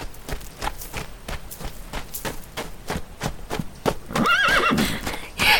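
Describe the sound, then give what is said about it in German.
A pony's hooves clip-clop in a steady, regular rhythm, then a loud, wavering neigh rises over them near the end, clear with no voices. “war kein gewöhnliches Pony.”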